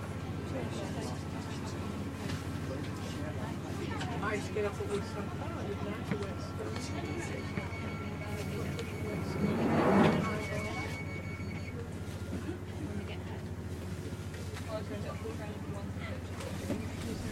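A London Underground train sits at the platform at Tottenham Court Road station, terminating at Kennington, with a steady low rumble and electric whine, then a brief burst of hissing and clunking as the doors work, with faint indistinct murmuring in the background.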